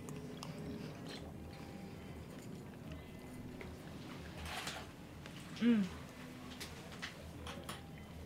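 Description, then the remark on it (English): Steady wet chewing of a raw oyster together with a pearl, a soft, slippery mouthful, with one brief louder bite or pop partway through, against a low background murmur and no clear talking. “And in this case, you're looking to chew the pearl and pop it and the oyster thoroughly, like 30, 40 chews at the same time.”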